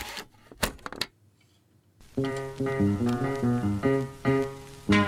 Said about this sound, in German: Erinnern Sie sich noch an Walkmans? Kassette rein und los geht's.